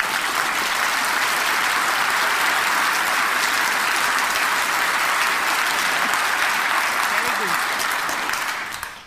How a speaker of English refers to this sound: And please try to create that through your clapping. Try. Just please try.